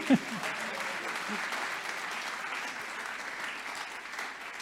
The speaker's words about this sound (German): Jetzt dürft ihr klatschen.